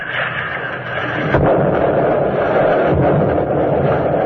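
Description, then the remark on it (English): Muffled underwater blasts of depth charges dropped and fired from throwers by a DE, exploding at their set depths: two heavy low booms a couple of seconds apart, rising out of a steady roaring rumble of churning water and engine noise, with no voices. “The charges explode at their set depths, and the DE bounces on the waters upheaved from below.”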